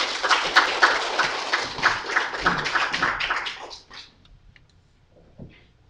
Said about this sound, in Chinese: 咱来掌声来欢迎老牧师。